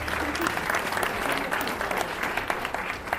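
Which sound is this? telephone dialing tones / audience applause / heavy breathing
audience applause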